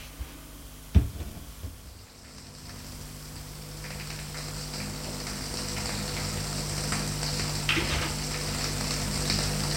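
shower water running

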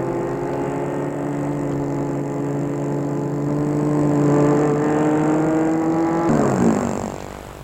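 car driving and parking

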